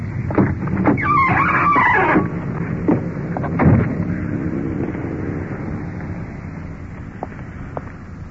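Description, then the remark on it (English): A uniformed police car carrying a suspect rolls up in front of a motel, its engine rumbling low with a brief high brake squeal early on, then a dull thump as it idles on steadily with no talking. “The uniformed car is pulling up in front with a suspect.”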